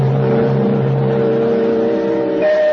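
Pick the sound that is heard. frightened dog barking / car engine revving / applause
car engine revving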